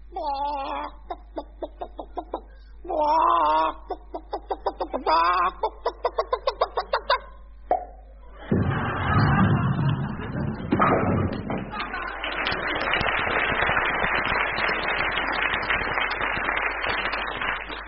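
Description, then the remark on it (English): A hen laying a bowling ball: a series of agitated, high-pitched hen clucks and squawks in uneven bursts, then a heavy thud followed by a long, loud rushing clatter that lasts to the end. “Here is a very unusual recording of a hen laying a bowling ball.”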